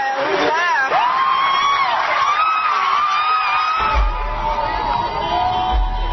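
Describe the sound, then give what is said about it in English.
Hundreds of people in the pews of the church where Martin Luther King preached cheer wildly, celebrating the nation electing its first black president, with loud sustained whoops and high shouts overlapping in a continuous roar that holds steady throughout, punctuated by low thumping near the end. “Hundreds of people in the pews are going wild.”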